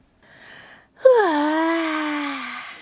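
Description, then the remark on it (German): A single drawn-out, bored yawn voiced by a person reading a children's story aloud: a soft breathy intake, then a loud, sustained vocal sigh that slides downward in pitch and trails off, alone. “Gähnt Clara gelangweilt.”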